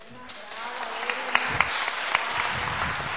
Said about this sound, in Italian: credo che veramente meritano l'applauso perché sono state molto brave. Sono testi tutt'altro che facili da leggere, l'hanno letti veramente molto bene.